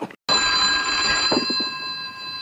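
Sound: telephone ringing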